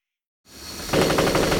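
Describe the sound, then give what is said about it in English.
A rising rush of noise gives way to a loud, rapid burst of automatic gunfire as McCarter shoots from the hip while fighting his way toward a hangar door; the shots rattle off in a fast, even stream with no voices. “McCarter shot from the hip as he charted his fighting course for the hangar door, hanging one, then two Russian hard men charging from the chopper pool.”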